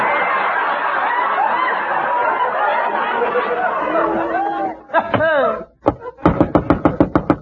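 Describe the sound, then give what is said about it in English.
After a stretch of crowd chatter and laughter, someone pounds on a door: a rapid burst of about nine loud, heavy bangs in quick succession. “This time he beat the door in.”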